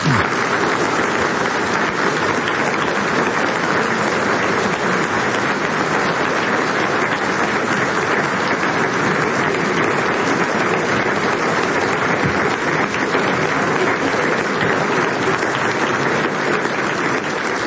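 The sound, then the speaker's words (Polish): Sustained applause from a large audience after Professor Mieczysław Ryba's lecture at a scholarly symposium at the College of Social and Media Culture in Toruń, Poland, a dense, steady clatter of many hands clapping at an even loudness for the whole stretch, with no voices standing out. “Drodzy Państwo, słyszymy też brawa, bo to oklaski po wykładzie pana profesora Mieczysława Ryby.”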